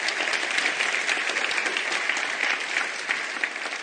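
Steady applause from a sizable audience, many hands clapping at once in a dense, continuous wash that holds at an even loudness for several seconds without anyone speaking.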